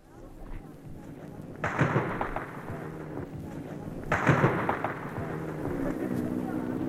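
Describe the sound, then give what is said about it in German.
Two gunshots crack at Potsdamer Platz in Berlin as Soviet tanks move against tens of thousands of demonstrators, about two and a half seconds apart, each rolling into a long echo off buildings, over a steady outdoor rumble with faint crowd murmur. “Schüsse am Potsdamer Platz.”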